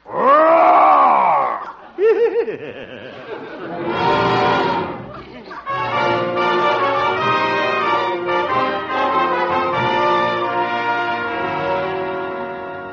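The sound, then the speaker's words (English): A man who is going to be a bear in a bear skin costume growls and roars in imitation of a bear, with loud, rough bursts that rise and fall, followed by a sustained, raspy snarling that carries on to the end. “Yeah, Mother, guess this is my night to growl.”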